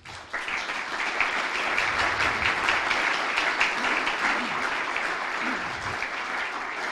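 An audience at a Theological Faculty celebration in Slovenia breaks into sustained applause, starting abruptly and holding steady as a dense, even wash of clapping from many hands for several seconds, with no one talking over it.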